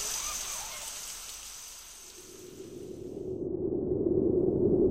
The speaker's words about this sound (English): Wow! A jungle! Parrots and monkeys! Amazing! It's rainy here.